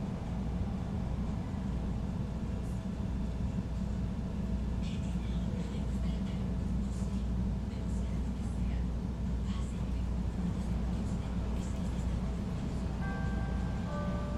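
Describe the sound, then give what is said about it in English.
Inside a Red Line subway train to Howard, at Jackson station, a steady low rumble and rattle, a constant droning hum with faint metallic clinks, and a few brief tonal beeps near the end. “This is a red line train to Howard.”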